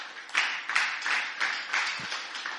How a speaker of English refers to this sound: And yeah, let's give another big hand clap to the worship team.